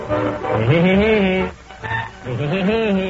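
A novelty song with a cartoonish woodpecker laugh, a voice imitating a bird's rapid, warbling cackle in two loud bursts with a brief dip between them.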